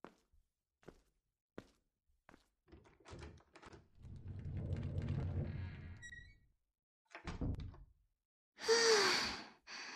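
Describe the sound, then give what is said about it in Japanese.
A few soft thuds, then a low, heavy rumbling scrape as a heavy door is pushed shut by one person alone, a brief clunk, and finally a breathy sigh of effort. “ふう、一人だとドアを閉じるのも一苦労です。”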